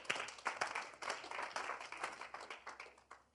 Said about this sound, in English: Wow, clap for the Lord Jesus.